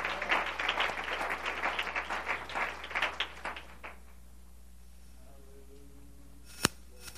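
A church audience applauds together unto the Lord during a worship service, a dense burst of many hands clapping that fades out after about four seconds, leaving quiet with a faint hum and one sharp click near the end.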